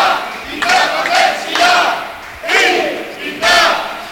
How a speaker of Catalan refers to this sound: Aquests aplaudiments responen, eh?